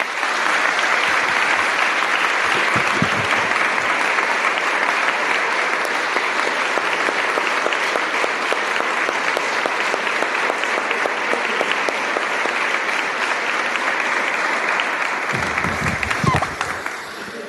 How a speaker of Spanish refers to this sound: Y os pido pues un aplauso para este momento.